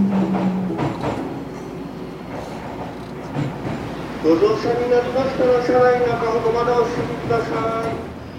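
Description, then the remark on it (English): Bustling ambience at Shinjuku Station, with a ceaseless stream of passengers and overground and underground trains: a steady rumble of trains and indistinct crowd chatter. About halfway in, a train rolls through with a sustained, rising metallic whine over the din. “A ceaseless stream of passengers and trains both overground and underground. This is Shinjuku Station.”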